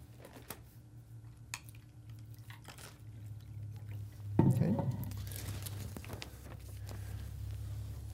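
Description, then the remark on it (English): Water is poured into a glass in one short pour midway through, as more water is fetched during a Bible teaching, over a steady low hum with scattered small clicks and handling noises, and no one speaking. “I'm going to get some more water.”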